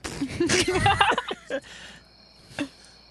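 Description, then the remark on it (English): Faint, steady chirping of crickets at night, rising clearer after a short stretch of voices and a few sharp knocks at the start. “The crickets are nice.”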